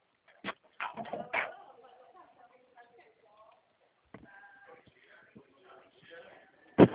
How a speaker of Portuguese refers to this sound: Já chegou, eu já cheguei, tô abrindo a porta.